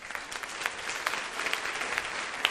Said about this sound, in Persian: مرسی، تشویقش کنیم.